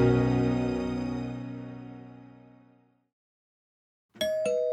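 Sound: doorbell ringing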